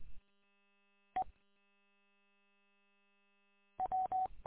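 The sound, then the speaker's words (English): Chime tones from the Canadian amateur radio station VE3WDE at the CN Tower, Toronto, Canada: a single short beep, a long pause, then a rapid run of four or five clipped beeps in a row, clear and fairly loud with no talking. “Back off the mic a little bit and chime me one more time.”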